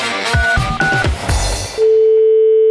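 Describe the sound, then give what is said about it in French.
Brief beeping tones over a rustling, clattering background, then a steady, clear telephone tone that holds on alone until the end, as a call is placed to a butcher's shop to test someone's hearing over the phone. “J'appelle quelqu'un et je le teste au téléphone.”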